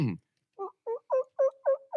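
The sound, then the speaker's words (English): A person imitates a turkey's gobble: after a brief low vocal sound, six quick, evenly spaced warbling pulses follow in a steady rattling rhythm, fairly loud and growing slightly stronger. “With you, do you have a turkey call? Let's hear it.”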